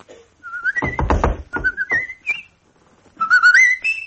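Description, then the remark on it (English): A person whistles the melody of the Mexican folk song La Cucaracha, the tone rising and falling in quick lively phrases, with a few rustling sounds in the middle and a brief pause before the tune resumes. “you don't want to whistle again, do you?”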